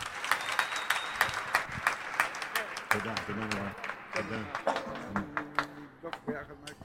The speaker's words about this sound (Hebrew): ובאמת, איפה מחיאות כפיים?